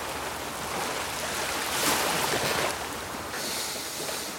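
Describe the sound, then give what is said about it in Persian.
Steady sea waves wash and hiss continuously, with a fuller surge of surf breaking near the middle. The water noise is broad, and no one speaks. “به جای این حرفا به چشامونو ببندیم و فقط به صدای دریا گوش بدیم.”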